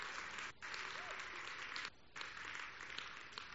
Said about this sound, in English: Hallelujah. Clap your hands. Shout to God. Shout to him. Hallelujah!